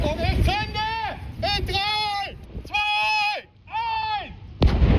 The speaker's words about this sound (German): ein Entschärfer der Abteilung Staatsschutz beschloss, die Flasche muss direkt am Elbufer gesprengt werden.